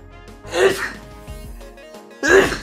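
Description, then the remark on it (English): Two loud, raspy coughs with a voiced, throaty edge, separated by a pause of about a second and a half, with only low background murmur in between. “Hit him with the Dracula cough, Dad.”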